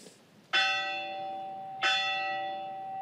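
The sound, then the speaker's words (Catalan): A bell struck three times: the fading tail of one ring, then two clear, loud strikes about a second apart, each leaving a bright, sustained metallic tone. No voices. “Sí, toquem la campana, ok.”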